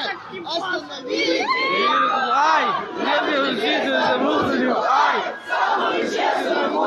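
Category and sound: crowd, crowd shouting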